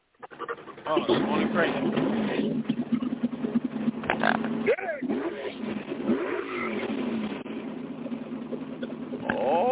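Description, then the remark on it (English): A small engine drones with a buzzy, lawnmower-like motor sound for nearly ten seconds, its pitch rising and dipping as it revs, while voices talk over it. “That motherfucker sound like a lawnmower motor.”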